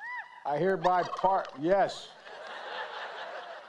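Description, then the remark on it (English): A turkey, one of two pardoned at the White House for the holiday season, lets out a loud gobble, a rapid burst of warbling, bubbling calls lasting about a second, which then gives way to a steady murmur of background noise. “President Biden today's pardoned two turkeys.”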